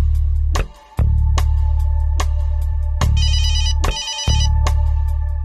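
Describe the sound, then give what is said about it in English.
A telephone rings with a call from trooper dispatch: a steady electronic ringtone, sharp pulses repeating in quick rhythm and bursts of high warbling trill, over a constant low hum. No one speaks. “I would receive a phone call from Trooper Dispatch, and they would tell me exactly where the moose was at, what mile marker, and I'd let them know, okay, I'm on my way.”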